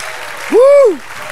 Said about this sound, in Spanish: Denle un aplauso, se lo merece.